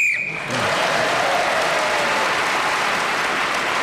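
A single short, shrill whistle blast sounds at the start, ending a round while Paul Merton is speaking, then loud, steady applause from a large audience fills the rest.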